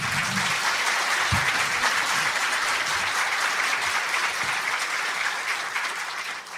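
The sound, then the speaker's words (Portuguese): A crowd applauds steadily for several seconds, a dense wash of many hands clapping, holding loud and even before easing slightly at the end, welcoming guest Assis Ângelo, who is present to talk about his book on Demônios da Garoa. “Vamos recebê-lo com palmas.”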